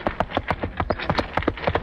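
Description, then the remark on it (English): Steady, quick clip-clop of hoofbeats, a sound effect made by hitting two rubber plungers on a man's chest, with hollow thumps, trotting in an even rhythm with a faint low rumble beneath from a box on casters wiggled by foot as the wagon, fairly loud, with no talking. “Ted impersonated the horse by taking two rubber plungers and hitting them on his chest.”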